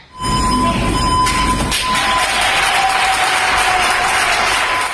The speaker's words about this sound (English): At a hospital in Barcelona, Spain, doctors and nurses surprised a cleaning crew with a warm round of applause.